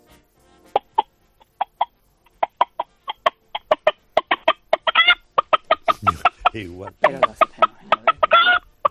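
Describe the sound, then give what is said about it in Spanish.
A person imitates a clucking hen with a long run of short, rhythmic vocal clucks that speed up, broken by a few drawn-out squawks, fairly loud. “Va a hacer la gallina, venga, a ver si me sale.”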